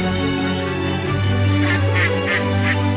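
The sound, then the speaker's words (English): A duck quacks several times in a quick, uneven series of nasal calls, fairly loud, over a steady low droning background with no one talking. “Can you hear the duck?”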